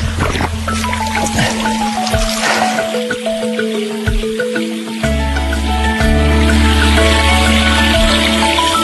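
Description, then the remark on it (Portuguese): Water trickles and splashes steadily at a desert oasis spring, a continuous liquid babble layered over a low, droning hum that grows a little louder halfway through. “E é um coração aberto, com água para matar a sede.”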